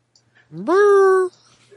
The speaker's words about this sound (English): My dog's going nuts. Can you hear him? Yeah, I do hear him.